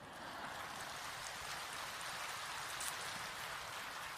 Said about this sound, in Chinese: 我知道你们现在鼓掌，待会儿要我多讲几个笑话。